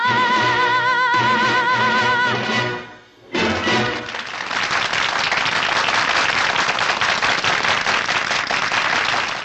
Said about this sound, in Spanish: Estamos con los aplausos